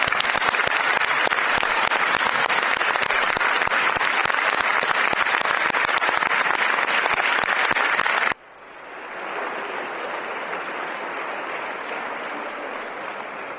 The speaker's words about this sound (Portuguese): Finalmente, gostaria de lembrar todos os colegas que ficaram pela sessão distrital e enaltecer o seu inegável contributo para o aperfeiçoamento dos projetos de recomendação iniciais. Para eles, peço uma enorme salva de palmas.